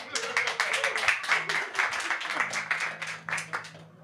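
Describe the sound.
An audience applauds with a dense, steady patter of many hands clapping for about four seconds, holding fairly loud before thinning slightly at the end, with faint voices murmuring underneath.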